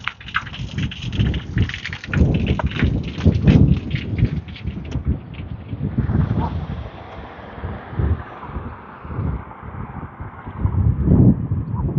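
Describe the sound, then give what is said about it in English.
A thunderstorm rumbles steadily, with deep, rolling booms swelling and fading over a constant hiss of rain and gusting wind, fairly loud, with no voices. “Some rather disturbing sounds coming from that storm”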